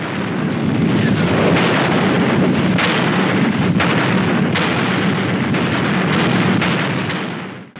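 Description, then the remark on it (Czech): A massive artillery barrage of the first wave of a Soviet attack at 5 a.m. on 16 April rumbles without pause, dense overlapping booms merging into a continuous loud roar with sharper blasts punching through, before fading out at the very end. “Za první vlnou sovětského útoku se rozzářilo 143 pátracích reflektorů, aby oslepili nepřítele.”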